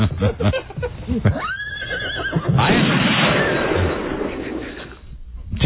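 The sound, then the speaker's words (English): A new horse named Nestle whinnies with a wavering, rising-and-falling cry, followed by a burst of broad noisy rumble like gunfire or hoofbeats, with brief voice sounds at the start. “Now meet your new horse, Nestle.”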